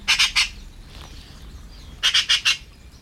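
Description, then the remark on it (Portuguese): Magpies on their nest at the top of a large plane tree in Alijó give harsh, rasping chatter calls in two quick bursts, three notes then four. The calls are loud and grating against a quiet background, with a pause between the bursts. “Pesca, não de peixe, mas de objetos reluzentes, é o que fazem habitualmente as pegas.”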